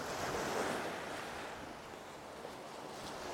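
Continuous rushing roar of surf washing on a beach, mixed with blustery wind buffeting the microphone; a slight swell early on, then a steady, unbroken wash with no voices.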